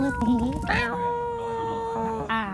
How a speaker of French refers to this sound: entouré d'adorables petits chatons trop trop mignons pour le média américain BuzzFeed.